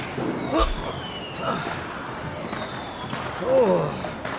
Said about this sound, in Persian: خب تبریک میگم. اوه پسر، به یه پیر مرد مردنی سیلی زدی. و مطمئنن فردا وقتی برم تو جایگاه فراموشش نمی کنم.